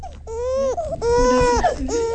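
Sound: baby crying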